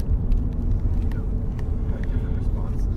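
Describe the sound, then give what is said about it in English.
Steady, heavy low-frequency rumble of road noise inside a moving car, constant in level throughout with faint higher ticks and rattles over the drone. “I'm here in the car with Andy Breckman.”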